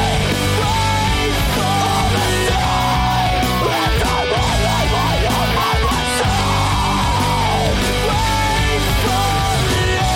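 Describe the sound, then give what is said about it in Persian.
Loud, dense screamo music with heavy distorted guitars and pounding drums, as raw screamed vocals rise and fall over the wall of sound in several strained bursts. “و این صدای تازه که حالا و در میانه دهه 90 میلادی، یعنی یک دهه بعد از پیدایش موسیقی ایمو، در سواحل غربی آمریکا شکل گرفته بود، توسط نویسنده ها و منتقدای موسیقی تحت عنوان خرد سبک اسکریمو طبقه بندی شد و در مورد اون صحبت شد.”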